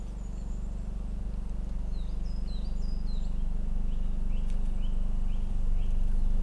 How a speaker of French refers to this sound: Je perçois au loin les oiseaux dans la basse vallée. C'est très discret.